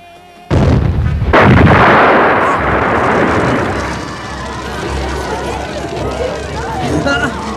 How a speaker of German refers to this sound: Das kann doch nicht wahr sein. Mein Porsche! Oh. Er ist explodiert! Er brennt! Die Explosion sorgte für gehörige Aufregung. Der Porsche brannte aus.